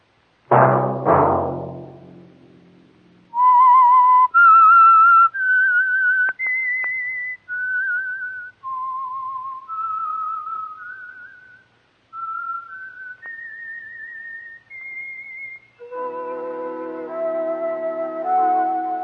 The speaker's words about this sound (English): Whistle be your signal for the Signal Oil program, The Whistler, each Sunday night at the same time